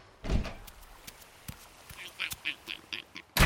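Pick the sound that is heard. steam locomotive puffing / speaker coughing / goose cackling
goose cackling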